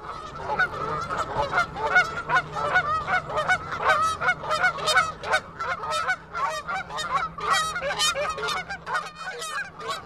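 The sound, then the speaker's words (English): A noisy flock of geese honks continuously and overlapping, dozens of harsh, nasal calls tumbling over one another for the full ten seconds, with no speech. “Aggressive geese have attacked children, and at airports, geese get in the way of planes.”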